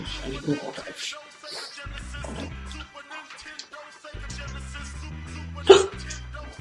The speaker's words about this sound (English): Is that a hiccup?